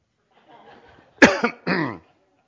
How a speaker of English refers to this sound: I'll tell you, this cough is an aggravation to me here this morning.